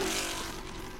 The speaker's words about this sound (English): Now, I'm lucky enough to take this for a drive around the legendary track at Watkins Glen. Nothing sounds as sweet as a 427 Ford at 7,000 RPM. Car is almost violent, pulls you forward under braking, throws you back into seat under acceleration.